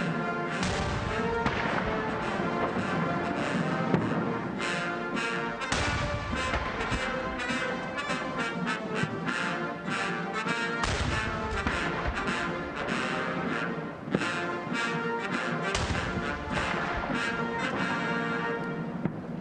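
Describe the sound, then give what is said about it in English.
Cannon shots of a 21-gun salute boom at irregular intervals over a loud, steady brass band, the U.S. Navy Band, playing ruffles and flourishes and Hail to the Chief at a ceremony for President Reagan's casket at the U.S. Capitol, with a U.S. Armed Services honor guard, and no talking. “Armed Services assembled, and the U.S. Navy Band performed ruffles and flourishes and hail to the chief to a 21-gun salute.”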